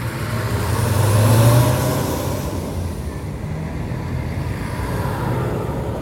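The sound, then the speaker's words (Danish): A steady low engine rumble of a city bus in Copenhagen, swelling briefly as it accelerates, then settling into a continuous hum with road noise, heard from inside the bus. “først en tur med bussen i København.”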